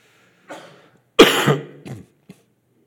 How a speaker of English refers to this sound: Is that the guy from Michigan that just coughed at me?